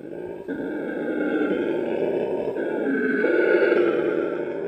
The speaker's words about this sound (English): So species that had a very big vocal organ had very small testes, and species that had a very small vocal organ had very big testes. So let me get this right. Loud roar.